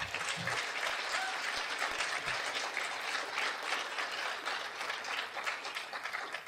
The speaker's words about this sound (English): Please give her a round of applause.